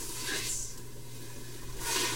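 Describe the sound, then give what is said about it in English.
Food being browned (sautéed) sizzles as it hits a hot pan, a broad crackling hiss that swells at the start, eases off in the middle, then surges again near the end over a low steady hum. “And is that sizzle the sound you want when it hits the pan?”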